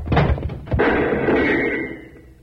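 A door is shoved open fast: a quick scrape and rattle, then a heavy close thud that leaves a loud, lingering rumble and reverberation fading over the next two seconds.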